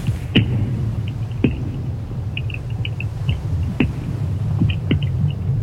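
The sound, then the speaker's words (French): Iceberg ice picked up by geophones: a deep, steady pulsing rumble with a handful of sharp, isolated cracks every second or so, plus faint high ticking, with no voices. “Et voilà donc ces sons que vous avez enregistrés avec ces géophones. On a vraiment l'impression de pulsation.”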